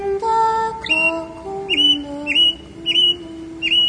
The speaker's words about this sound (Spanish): Amo el canto del cinsontle, pájaro de 400 voces.